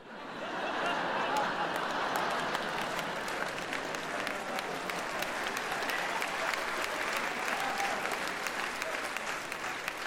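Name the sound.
audience clapping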